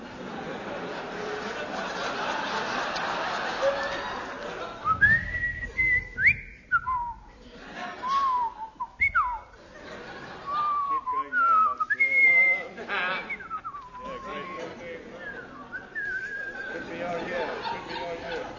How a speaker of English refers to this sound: Splendid. I will now whistle the soliloquy from Hamlet.